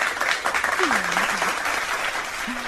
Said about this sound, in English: Probably shouldn't have had the clap then, sorry. Yeah. Yeah, that was a weird sound effect.